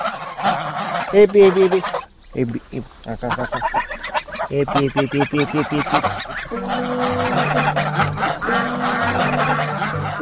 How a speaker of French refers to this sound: … en grande discussion avec ses oiseaux, ses oies et ses canards dans sa ferme du Cantal.